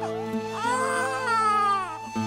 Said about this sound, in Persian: آن شب باد عجیبی میوزید. صدای گریه کودکان از هر خیمه شنیده میشد. یکی آب میخواست، یکی مادرش را صدا میزد